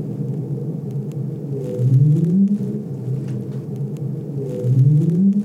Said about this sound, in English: This is a right whale sound. So right whales make an upsweep. Yeah. We can detect those pitch tracks really well.